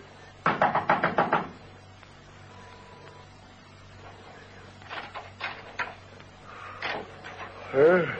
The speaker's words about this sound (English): is knocking on the door of a house in Nelson Street, Boyson's